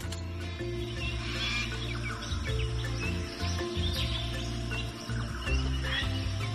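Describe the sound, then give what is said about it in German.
Jungle birds in Chiapas call back and forth in bright, scattered chirps and short whistles as they fly from branch to branch high overhead, rising over a steady low droning hum that runs underneath throughout; no one speaks. “Kannst du die wohlklingenden Rufe der Vögel hören, die hoch oben über deinem Kopf von Ast zu Ast fliegen?”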